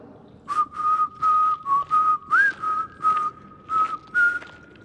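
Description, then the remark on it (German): A person whistles a short tune, about nine clear, evenly paced notes holding near one pitch with a brief rising slide partway through, fairly loud, with no talking. “Und wir singen und pfeifen die Berggeister hinfort.”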